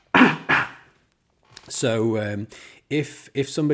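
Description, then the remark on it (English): Two quick, forceful coughs close together, followed by a pause and then some throaty voiced sounds like a person clearing their throat. “I'm going to cough, so one second.”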